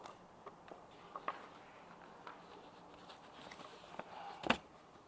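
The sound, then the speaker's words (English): Quiet, sporadic crinkles and soft taps of new paper being handled and shuffled, with a sharper crackle near the end as sheets stuck together pull apart. No one speaks. “this is new paper, it's all stuck together, sorry.”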